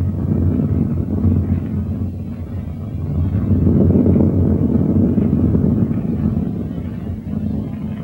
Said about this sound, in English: Oh, here's neither bush nor shrub to bear off any weather at all, and another storm brewing. Oh, I hear it sing in the wind.